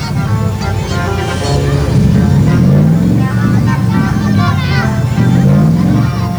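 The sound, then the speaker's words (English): The heavy engine of an army truck disguised as an Eritrean gunboat carnival float rumbles steadily, its drone shifting as it moves, while a lively crowd of children running in its wake through swirling dust chatters and shouts all around it. “Dust swirls around the kids running in the wake of this carnival float, an army truck heavily disguised as an Eritrean gunboat.”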